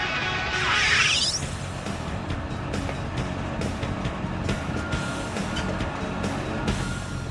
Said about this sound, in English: This is called a crusher. It's the final destination for the mining trucks. Pressure in the crusher is incredible. Falling in there would be deadly. Once crushed, the oil sand travels on a conveyor belt to the plant,